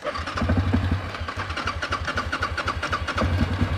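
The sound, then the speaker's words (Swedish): A vehicle engine rumbles with a steady, low throbbing pulse, its rough mid-range chugging rising slightly as it begins to pull away, with no voices over it. “Kan du hålla i min mikrofon så ska jag köra iväg med oss?”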